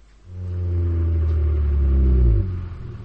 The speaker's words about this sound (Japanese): しばらくしてバスが止まった。